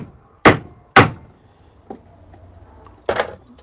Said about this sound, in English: Okay, this is going to be loud. I'm probably going to distort in the recording. So I position my screwdriver at the point where I want to make a cut all the way through, and I just punch it by hammering it.